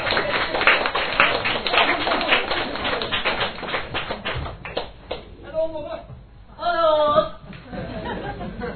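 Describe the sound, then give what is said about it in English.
An audience applauds steadily for about five seconds, dense overlapping clapping filling the room as a performer comes up from the back of the room. It fades out as a single voice starts speaking. “she's coming all the way from down the back of the room, so we're a big round of applause.”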